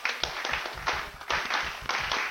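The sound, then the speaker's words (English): A crowd of college fans claps together to a beat at a brisk, steady pace, many hands blending into a dense, continuous patter with sharper accented claps recurring throughout. No voices are heard. “Hey, all you college fans, let me hear you clap your hands.”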